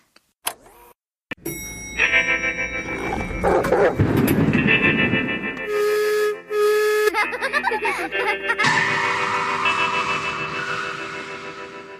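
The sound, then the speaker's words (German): A short homemade intro jingle in an early, stripped-down version: a loud, busy collage of layered tones and sound effects, with bark-like and car-like noises, starting abruptly and running continuously for about ten seconds. “Hören wir doch mal, du hattest ja damals schon ein Jingle gebastelt.”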